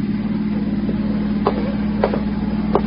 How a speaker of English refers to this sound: No, there's a car out there. It's been following me for the last 200 miles.